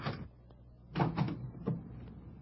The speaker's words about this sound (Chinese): 哎，对不起啊，我马上开门啊。